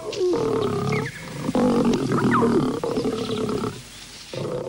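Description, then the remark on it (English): Two lions roar and growl while hunting a pangolin, in loud, deep, rumbling bursts, several long throaty calls broken by short pauses, with no talking over them. “Two lions are on the hunt for a pangolin.”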